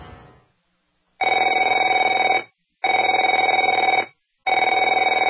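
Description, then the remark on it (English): A telephone rings in three loud, steady bursts of about a second and a half each, separated by short silences, with a bright, buzzy electronic tone. Nobody speaks. “Afraid to answer it?”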